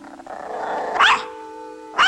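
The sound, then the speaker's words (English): A small dog, a toy poodle, growls in a steady rumble, broken by two sharp, high yaps about a second apart. “The toy poodle eyes him.”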